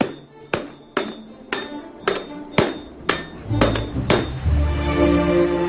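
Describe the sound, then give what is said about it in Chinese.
A sledgehammer pounds an iron wok being hand-forged in Zhangqiu, China, in a steady rhythm, roughly two loud metallic blows per second, each ringing briefly; one smith signals the strikes while the other swings the sledgehammer. Toward the end the clanging grows denser over a ringing background. “就说俺两人必须得配合起来，这个大锤像你看到，我点下了，他打锤，一个是得有力气，这个还得有技术。”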